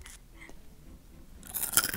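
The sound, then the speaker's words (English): Crisp crunching of small Goldfish crackers being chewed, a quiet stretch giving way to a burst of loud, brittle crunches near the end, with no talking. “Goldfish. Yum.”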